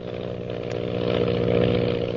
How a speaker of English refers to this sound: Lily DeVril's powerful plane zooms on in an attempt to elude the mysterious pursuer.